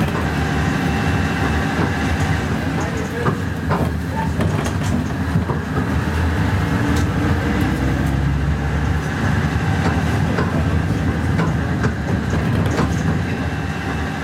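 A diesel locomotive of a heritage mountain railway drones steadily, heard from inside a moving vintage passenger carriage departing toward Bendorf, a constant low rumble layered with rattling and faint rhythmic clatter from the rails, with no talking.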